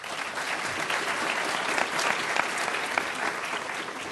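Steady audience applause for a panelist being introduced, a dense crackle of many hands clapping at an even level throughout, with a few sharper individual claps standing out and no one speaking over it.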